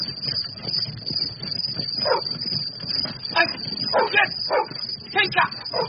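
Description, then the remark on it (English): Two dogs bark and yip in short, irregular bursts, several yelps clustered toward the end, over a steady background hiss. “The paws of the two dogs bleed.”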